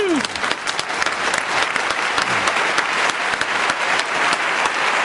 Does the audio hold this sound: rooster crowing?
no